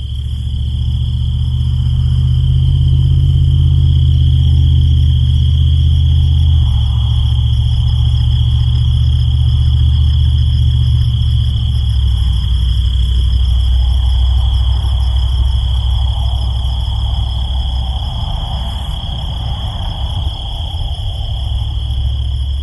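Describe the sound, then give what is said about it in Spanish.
A dense chorus of crickets chirping in the Chihuahuan Desert, merging into a steady, unbroken high trill that lasts throughout, over a soft low rumble in the background. “Grillos en el desierto de Chihuahua.”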